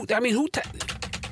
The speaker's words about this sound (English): I don't know if you heard that or not. That was not me clanking on a keyboard. I just want that noted. I was not on my notepad or anything like that.